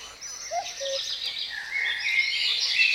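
A dense dawn chorus of many birds chirping and trilling at once in a biotope at 4:30 in the morning, a steady high twittering wash with a couple of lower whistled notes early on, no talking.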